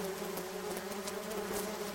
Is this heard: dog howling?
no